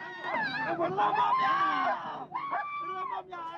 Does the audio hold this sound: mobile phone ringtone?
no